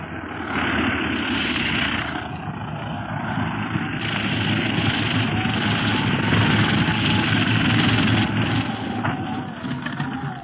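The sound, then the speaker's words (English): A loud, steady engine roar with a whirring propeller drone fills the whole stretch, unbroken, as a plane is landing. “The plane is landing. We'd better step back.”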